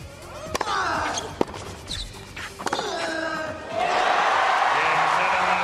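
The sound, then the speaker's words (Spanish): A few sharp tennis ball strikes and squeaking shoes, then a tennis crowd erupts into a loud, sustained ovation of cheering and applause that holds until the end, at the final moment of Rafa Nadal's 6-2, 7-6 win over the Greek Tsitsipas in the Masters 1000 final in Toronto. “Este fue el último momento y la ovación del público.”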